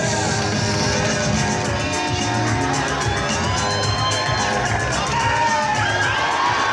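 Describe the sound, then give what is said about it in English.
A large crowd in a movie theater cheers and whoops loudly and continuously as someone shows up on screen, with excited shouts rising over a dense roar of many voices, and a film soundtrack faintly underneath. “So this is a movie, and there's, every time you hear it, kind of a cheer, that's somebody showing up on screen.”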